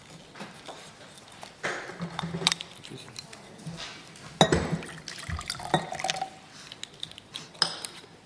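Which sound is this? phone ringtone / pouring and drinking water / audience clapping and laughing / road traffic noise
pouring and drinking water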